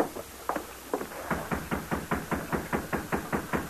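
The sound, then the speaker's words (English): Someone knocks on the back door of a jail in Modoc City shortly after dark, a quick, steady series of about a dozen raps that grow more regular as they go, moderately loud, with no voices. “They dismounted and knocked on a back door.”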